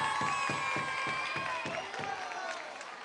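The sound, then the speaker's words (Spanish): A crowd applauds and cheers loudly throughout, with rhythmic clapping beats and high-pitched shouts and whoops layered on top, the noise staying steady and dense before easing slightly near the end. “¡Fuerte el aplauso!”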